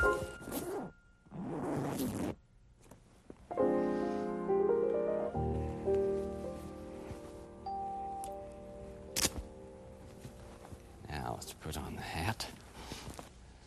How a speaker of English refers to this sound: Ever try on a costume? You know I'm gonna be inside here. This costume has a zipper on it too.